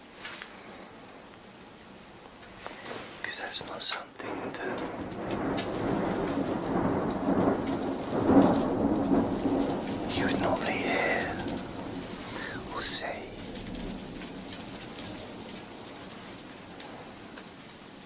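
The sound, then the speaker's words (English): Steady rain hisses through a rumbling thunderstorm heard through an open window, with a long roll of thunder building in the middle and a sharp crack near the end; a voice speaks briefly over it and birds chirp faintly. “At the same time as a thunderstorm.”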